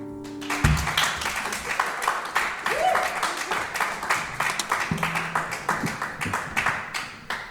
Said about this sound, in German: Grossartiger Applaus